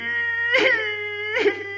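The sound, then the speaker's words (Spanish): A voice wails in a drawn-out, sustained cry, swelling into two sobbing bursts before trailing on. It is fairly loud, with no other talk. “Se me fue la risa y me entró el llanto.”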